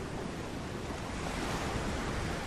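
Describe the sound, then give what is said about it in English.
Turbulent white-water surf rolling in on a beach along a wild coast roars steadily and loudly, a dense, unbroken wash of crashing waves with some wind rumble mixed in and no voices. “A contemplative Viennese gazes out at the turbulent white water.”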